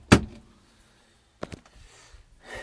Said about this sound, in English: Let's lock the door so we don't get